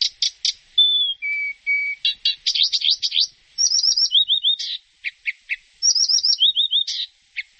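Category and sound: bird, reed warbler trilling song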